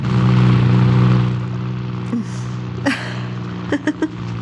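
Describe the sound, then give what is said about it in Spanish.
A rental car's engine roars loudly at first as it speeds violently up a city street toward the exit of the city, its low rumble fading somewhat as it moves away, followed by a few short sharp bursts or revs near the end. “el carro de alquiler que seguía se abalanza violento calle arriba en dirección a la salida de la ciudad.”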